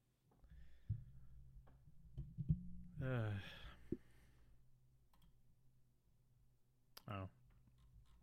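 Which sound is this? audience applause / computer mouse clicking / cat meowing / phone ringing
computer mouse clicking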